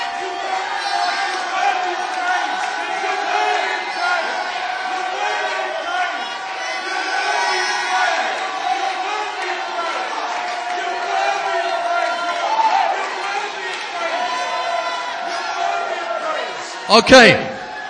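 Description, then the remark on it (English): A large church audience shouts praise to the Lord and cheers together in a sustained, loud roar of many voices for nearly twenty seconds, with a sharp burst of noise near the end. “Okay, so what that was shouting to the Lord at your current level of comfort, but it says to present to the Lord a sacrifice of praise.”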